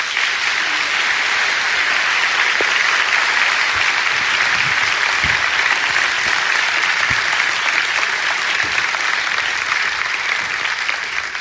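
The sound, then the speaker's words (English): Sustained applause from a large audience at Gwinnett Church welcoming four guests up to the stage, steady and fairly loud throughout, a dense wash of clapping with no voices standing out. “I want you guys there to give a warm, great round of applause.”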